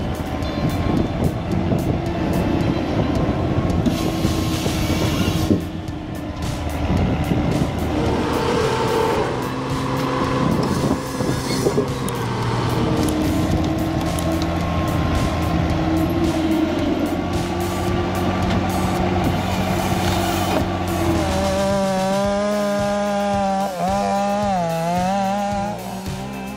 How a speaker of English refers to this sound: What you're witnessing isn't a long-necked dinosaur, but the Cockham's Logma, a a timber harvesting machine straight out of Sweden. Witness its operation, and you'll understand why it's a game changer.